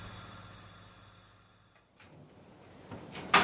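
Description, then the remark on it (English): A shop door opens: a few soft clicks and a rustle, then a sharp, loud knock or clunk near the end, all over a steady low hum with no voices. “Suddenly, the door opens.”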